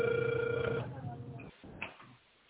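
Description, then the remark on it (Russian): A telephone ringback tone: a single steady, mid-pitched beep lasting under a second, followed by a quieter stretch of muffled line noise and faint murmuring over a narrow phone line. “Продолжаю вызов.”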